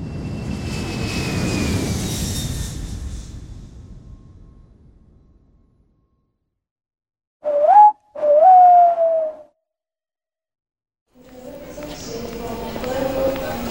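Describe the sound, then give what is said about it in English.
An airplane roars overhead with a whining engine pitch, fading steadily into silence over several seconds. Afterward come a short whistling tone and some other murmuring sounds. “Grandma lives very far away, so she travelled by plane.”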